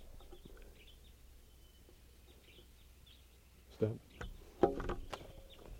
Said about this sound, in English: Wild bird. It's a red male.